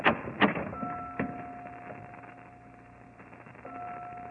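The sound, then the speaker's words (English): A heavy door into a bell tower unlatches with a few sharp clunks, then swings open with a long, steady creaking groan that fades and returns briefly near the end. Fairly quiet, with no talking. “Here, Watson, through this door. The only way to get into the bell tower.”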